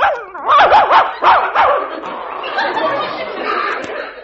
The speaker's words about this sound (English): The trouble is this dog thinks you're afraid of him. He does? Sure. Well, he's a pretty smart dog. Here, just watch me handle him. Listen, doggy, get away from that gate and let me in.